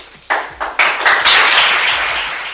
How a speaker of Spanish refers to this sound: Se despedía a Carlos González Bellete, le aplaudía la plantilla y el cuerpo técnico en una rueda de prensa